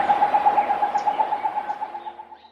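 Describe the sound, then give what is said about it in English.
A forest owlet, a second bird found at 8 a.m. about 200 yards from the first, calls in a rapid, even series of short hoots around one steady pitch, repeated about a dozen times and slowly fading, somewhat monkey-like, with no talking over it. “They even captured its call this time, a sort of monkey war hoot.”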